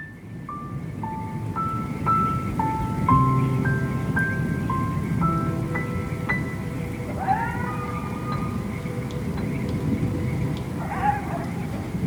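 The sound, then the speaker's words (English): Steady, even rain hisses outdoors throughout with no one speaking, while a simple stepped melody of clear tones plays over it and a few quick chirping sweeps appear near the end. “I just love being outside and raining.”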